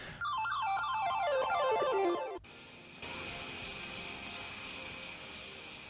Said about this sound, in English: That's a good sample, that cricket. We should keep that.